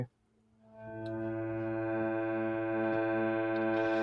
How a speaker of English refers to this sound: But we can also have it as a musical instrument, and there's lots of musical instruments that make drones. This is a harmonium, which is like a bellows with keys on it.